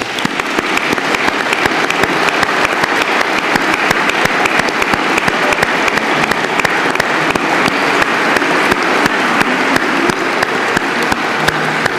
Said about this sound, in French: Au nom de l'Académie des Beaux-Arts, de ses membres associés, de ses correspondants, j'adresse mes plus sincères et chaleureuses félicitations à l'ensemble des lauréats que je vous propose d'applaudir une dernière fois.